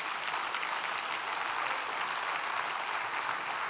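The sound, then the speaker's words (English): A church audience claps together as a hand clap offering to the Lord, in a dense, sustained wash of applause that holds steady and loud throughout, with no voices standing out above the clapping. “Give the Lord the greatest hand clap offering you've given him all evening.”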